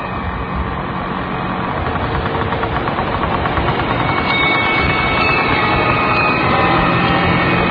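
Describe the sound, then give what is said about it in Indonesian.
A motorcycle carrying a rider and an elderly woman passenger sitting sideways runs steadily, a loud continuous rumbling drone with a faint rhythmic knock that holds for the whole stretch, with no voices. “Aku pun mengarahkan senyumku pada yang menyetir motor itu.”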